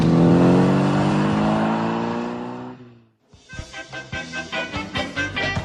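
A taxi engine revs loudly, its steady droning tone climbing for a few seconds before cutting off, then a rougher, pulsing engine rumble picks up again. No voices.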